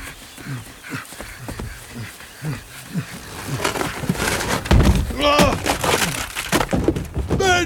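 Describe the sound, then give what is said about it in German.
An elephant bursts through a wooden door into a house while it is raining heavily: loud crashing and splintering wood over several seconds, with trumpeting, roar-like animal calls rising amid the noise. “Aber das ist doch kein Grund, zum 7. Mal in diesem Monat mit der Tür ins Haus zu fallen.”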